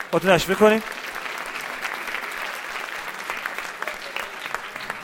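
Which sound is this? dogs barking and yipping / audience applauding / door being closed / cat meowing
audience applauding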